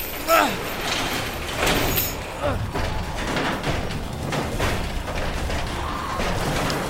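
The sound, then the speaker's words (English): A garage door in an auto shop rattles and clanks steadily as it is hauled down by its chain, a continuous metallic clatter with a few sharper knocks, loud, with voices underneath. “Grab the chain. Hurry. Pull the garage.”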